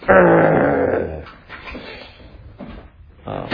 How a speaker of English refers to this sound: Why are you growling at me?